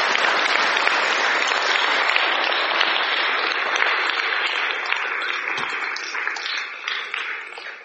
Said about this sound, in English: Amazing conference. Let's give a quick round of applause to all the local ones here for hosting it.